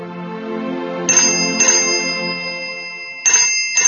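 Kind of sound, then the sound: signal or alarm, mobile phone call ringing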